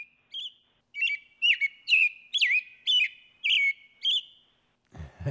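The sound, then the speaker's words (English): An American robin sings a cheery run of clear, warbled whistled phrases, about eight short notes in steady succession, distinct, ending with a brief rustle of noise. “Nice cheery little whistle.”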